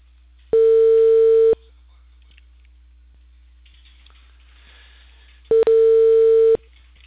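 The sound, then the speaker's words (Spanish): Two loud, steady telephone ringback tones before a call connects, each lasting about a second and spaced roughly four seconds apart, with a faint line hiss filling the quiet between them. “es el teléfono también.”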